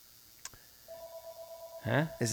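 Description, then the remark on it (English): A landline phone gives a steady electronic ring for an incoming call from a toll-free number, one sustained two-tone burst lasting about a second after a soft click, and then a voice starts talking as the ring fades. “Oh, look, my landline's ringing.”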